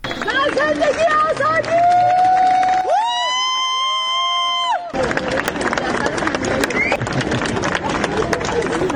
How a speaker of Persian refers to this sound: بر اساس ویدیوهای منتشر شده در شبکه‌های اجتماعی، جعفر پناهی دو روز پس از دریافت جایزه نخل طلای جشنواره فیلم کن بامداد امروز وارد فرودگاه تهران شد و مورد تشویق مردم حاضر در آنجا قرار گرفت.